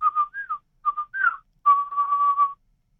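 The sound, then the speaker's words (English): A person whistles a bird call imitation: a few short pure notes, some gliding up and down, then a long steady held whistle, with no talking. “And sometimes it will add another little whistle every time, and sometimes I'll listen, and it'll add another.”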